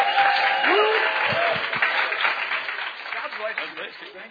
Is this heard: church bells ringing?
no